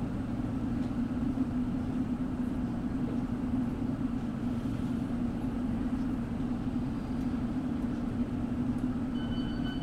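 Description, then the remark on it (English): A London Underground Circle Line train runs steadily from Mansion House toward Cannon Street, its loud, continuous low rumble and droning hum filling the whole stretch without pause, with no talking. “This is a Circle Line train via Liverpool Street and King's Cross St. Pancras.”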